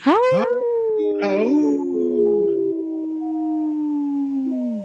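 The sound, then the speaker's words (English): A man, having taken his glasses off, imitates a wolf howl: a long, loud, wavering cry that rises sharply at the start, then holds and slowly falls over several seconds, with no talking. “Hey, I noticed you took your glasses off to howl”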